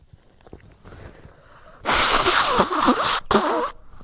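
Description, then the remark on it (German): Someone blows their nose in two loud, noisy honks, a long rough blast followed after a brief pause by a shorter one, with only faint rustling beforehand and no talking. “ich muss mal kurz gucken, ob ich Nase putzen kann.”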